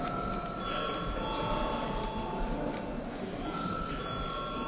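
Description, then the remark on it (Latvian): A voting bell rings continuously in a parliament chamber as deputies are called to vote, a loud, steady electric ringing that holds without a break for the whole stretch, with faint murmuring underneath. “Deputāti, lūdzu balsojam, lūdzu zvanu.”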